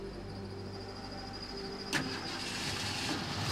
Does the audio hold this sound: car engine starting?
yes